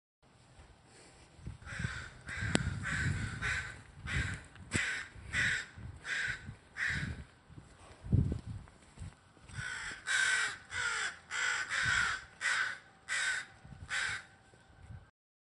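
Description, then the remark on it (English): Several crows caw repeatedly outdoors in the morning, harsh calls coming in quick bursts and overlapping, loud, with a faint low rumble of background noise underneath. “So in your clip, you talk about these crows in the morning that you went out for your walk.”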